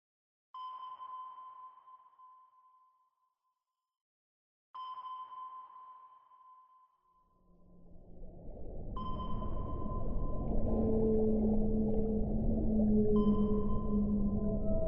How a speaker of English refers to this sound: In episode 1 of 52 Hertz, we introduced 52 Blue, who's thought to be the loneliest of whales, calling out at a frequency of 52 Hertz, when other whales call out in a range between 10 and 39 Hertz, which is why he never gets a reply.